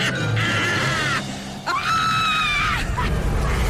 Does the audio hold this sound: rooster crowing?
no